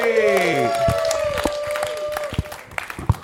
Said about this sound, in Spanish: Este fuerte aplauso